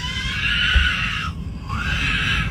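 A child's high-pitched, piercing scream, held and wavering, then briefly breaking off before a second sustained shriek rises again, loud and shrill with no talking.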